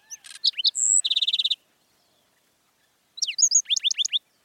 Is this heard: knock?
no